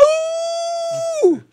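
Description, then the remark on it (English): A person imitates a wolf howl for Halloween: one long, steady, loud mid-pitched note held for about a second, then sliding sharply downward as it trails off. “Hi, I'm the Halloween Wolf.”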